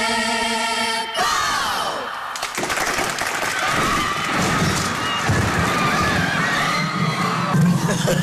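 A steady tonal blast gives way to a loud, sustained roar of crashing debris and rumbling, mixed with a crowd shouting and cheering throughout the staged set collapse.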